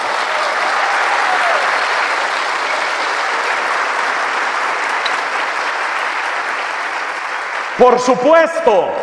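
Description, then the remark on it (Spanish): Sustained applause from a sizable audience, given for the Blessed Virgin Mary, fills the space with dense, steady clapping for several seconds, then a priest begins speaking as the clapping continues underneath. “Porque si hay alguien después de Dios a quien le debo mi vida, mi vocación, mi salud, mi sacerdocio, es la Santísima Virgen María, a la que hay que darle un aplauso.”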